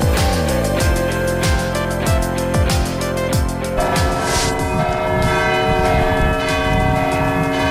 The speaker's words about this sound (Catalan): Aquest vespre han sonat les campanes a Vic amb un desig que plogui.